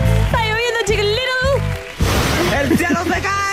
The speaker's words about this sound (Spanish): No, pero a las 5 de la mañana llovía con balde, de verdad, así como, y viento, y yo así, ok.